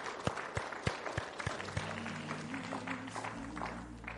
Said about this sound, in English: Now I'm going to open these altars this morning. Let's go ahead and give Jesus a hand clap of praise.